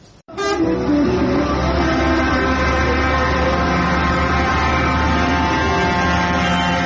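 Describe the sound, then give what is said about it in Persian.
Loud, sustained blaring of truck horns over a deep engine rumble, steady and continuous outdoors, as a convoy of truck drivers from Farrokhshahr, Chaharmahal and Bakhtiari province, Iran, parades through the town's streets in protest against water transfer plans. “رژه کامیونداران فرخشهر در خیابان‌های شهر برای ابراز مخالفت با طرح‌های انتقال آب.”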